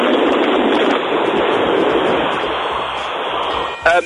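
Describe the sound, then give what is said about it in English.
A very fast car's engine roars loudly alongside heavy rushing air, recorded on a phone held out of the car during the ride: a dense, steady wall of noise lasting about four seconds, ending with a short, higher-pitched burst. “I hope you can hear it because to be honest with you, I've got no way of explaining just how loud this car is.”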